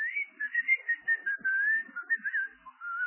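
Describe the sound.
A wavering, melodic whistle answers back from a novelty pair of men's underpants that whistles in reply when its owner whistles, held almost continuously for about three seconds with small rising and falling trills, fairly clear, with no talking over it.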